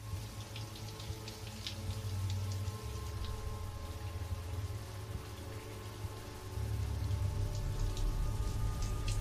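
household object, shower running water

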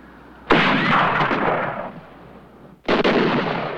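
sound effect, rifle gunfire

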